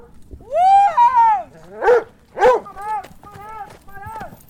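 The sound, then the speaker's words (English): A pack of hunting hounds bays and barks in long, drawn-out howls and sharp yelps, several dogs overlapping, with faint hoofbeats clopping beneath, as riders release the dogs for a coyote hunt at a rural location in Nevada. “Lloyd and up to 20 other riders go out to different rural locations and release the dogs for the hunt.”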